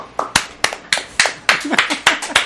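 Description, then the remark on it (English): Brisk clapping, about ten sharp hand claps in a fairly steady rhythm, each a crisp bright smack, with faint voices underneath toward the end. “The applause.”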